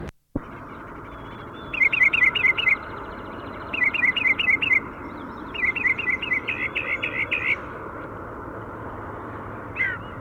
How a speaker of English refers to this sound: We're on Price Mountain and we found the birds bathing on the road, pointing at the female. She's fluffing and preening. She's all wet. Here comes a chickadee.